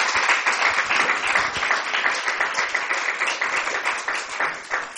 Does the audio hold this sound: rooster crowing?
no